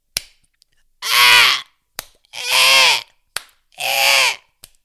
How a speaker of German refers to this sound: Und er fing an, mit den Ästen auf die Hexe einzuhauen. Und die Hexe schien sich wirklich zu winden unter diesem Gekloppe von dem bösen Baum.